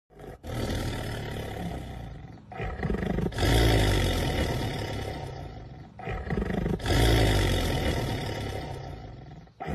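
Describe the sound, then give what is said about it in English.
A black panther roars loudly, several deep, rasping roars in two drawn-out rounds separated by brief breathy pauses, with no one talking. “That's definitely a roar. Yeah. So Black Panthers, not purrers.”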